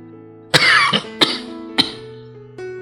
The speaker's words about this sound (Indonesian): Berguncang-guncang tubuh tuanya diserbu batuk-batuk hebat serta geraman yang berasal dari tenggorokannya.